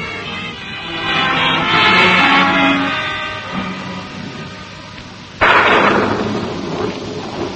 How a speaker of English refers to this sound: And then suddenly you're aware of a sound outside. You leap out of bed and hurry to the window. Rain. It's raining.